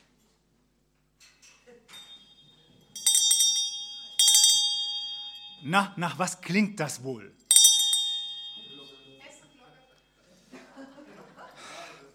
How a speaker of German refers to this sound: Also das war eine Glocke, die hat meine Frau ausrangiert. Eine Weihnachtsglocke.